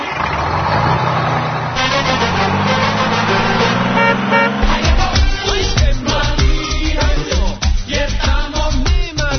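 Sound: motorcycle engine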